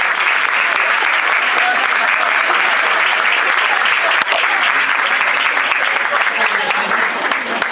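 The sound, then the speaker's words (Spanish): Steady, loud applause from a large audience, dense clapping filling the whole stretch without letup, continuous for several seconds, for Escuela Secundaria número 3 at a prize giving. “Un aplauso para la Escuela Secundaria número 3.”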